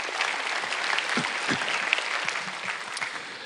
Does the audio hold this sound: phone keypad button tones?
no